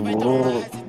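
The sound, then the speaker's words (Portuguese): A person imitates a pigeon cooing with their mouth: one low, throaty, warbling coo, fairly loud, lasting about a second with a slight dip near the end. “Não, essa boca tá imitando até o pombo.”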